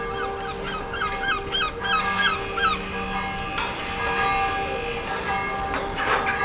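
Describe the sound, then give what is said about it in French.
The bell of the church at Mont Saint-Michel, Manche, rings on and on, its sustained metallic tones overlapping into a steady hum, while birds chirp and twitter. “D'une part, pour éviter l'ensablement et pour la réfection architecturale des remparts ainsi que de son église dont vous entendez la cloche sonner.”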